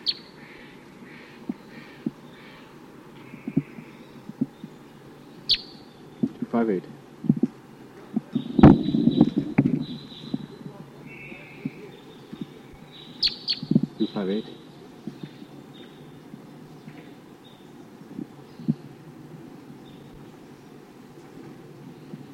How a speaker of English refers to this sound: recording bird 258, responding to Sid Kansas type calls from the wild.